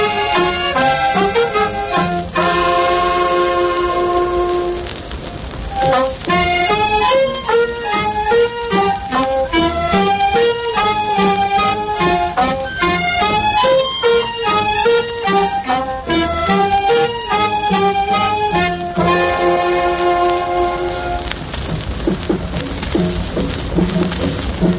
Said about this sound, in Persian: ترانه مسابقه این هفته فرداهنگ